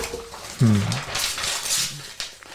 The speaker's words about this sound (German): Muss ich umblättern.